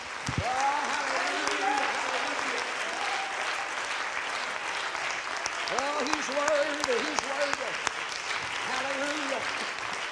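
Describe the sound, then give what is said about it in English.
An audience claps steadily in praise of the Lord, a dense, continuous wash of many hands filling the whole stretch, with raised voices and shouts rising now and then above the applause. “Can we clap our hands one more time?”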